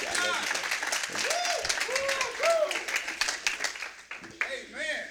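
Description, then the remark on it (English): An audience claps hands in praise for the man of God in sustained, dense applause, with scattered voices calling out and cheering over the steady clatter, which thins briefly before swelling again. “clap praise for the man of God.”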